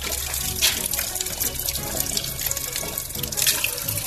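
Water runs from a public drinking fountain in Zaječar in a steady, splashing stream, fairly loud, with no break over the few seconds.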